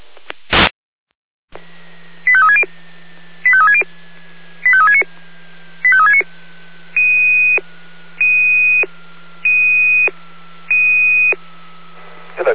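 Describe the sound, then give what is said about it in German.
Fire brigade radio alerting tones for Florian Orlamünde 1421 over a hissy, humming radio channel: four quick bursts of stepped tone sequences, then four longer steady beeps, evenly spaced and loud. The alert calls out a fire watch on a field between Orlamünde and Freien Orla. “Mit Alarmierung Florian Orlamünde 1421.”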